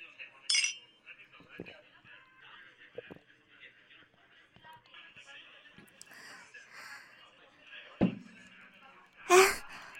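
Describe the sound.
Glasses clink together in a toast, a bright ring near the start and a louder, sharper clink near the end, with soft murmuring voices and small table noises in between.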